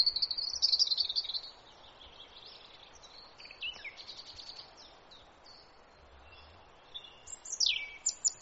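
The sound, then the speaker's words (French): Wild birds sing on the hills of Longomaille during a birdwatching walk in April 2024, in bright, high-pitched chirps and trills, loudest at the start and again near the end with quick descending whistles, over a faint steady buzz, with no one speaking. “Pendant cette semaine, elles ont proposé des balades ornitho autour des lieux de vie pour faire connaissance avec nos voisins ailés.”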